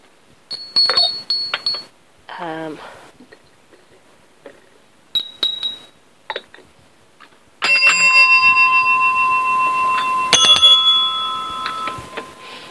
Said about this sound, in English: Also on the window sill are a number of ornaments and some bells. I just love things that ring.